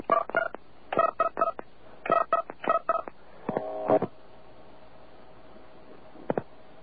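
Touch-tone telephone dialing of 10288, the AT&T carrier access code, to call a California number from New York: quick bursts of two-pitched beeps in several rapid clusters, then a longer warbling tone and a brief click amid a quiet hiss. No one speaks.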